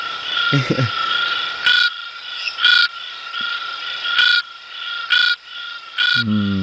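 frog calling

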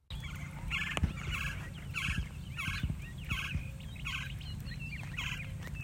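gila woodpecker call

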